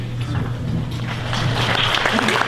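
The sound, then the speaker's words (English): Steady audience applause, a dense crackle of many hands clapping at once, sustained and fairly loud for a couple of seconds with a low hum underneath. “Yes, applaud my answer.”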